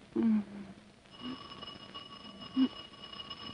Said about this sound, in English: I think the doorbell's stuck.